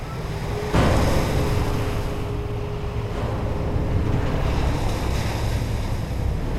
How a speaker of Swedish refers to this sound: Färjan plöjer genom mörkret. Enstaka ledfyrar blinkar i horisonten och vågorna sköljer över båten.